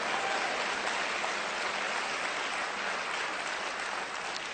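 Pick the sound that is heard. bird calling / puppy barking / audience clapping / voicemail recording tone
audience clapping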